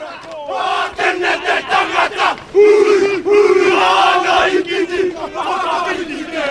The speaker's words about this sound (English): a group of Maori men performed a haka.